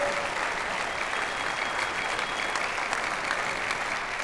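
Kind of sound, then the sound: crowd, audience applause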